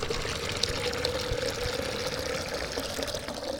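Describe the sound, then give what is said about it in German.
Water is poured steadily into a container holding 4 kilograms of sugar for making candy, a continuous splashing, gurgling stream lasting several seconds, fairly loud with no talking. “So, jetzt brauchen wir natürlich noch das Wasser und das leeren wir jetzt einfach hier mal rein.”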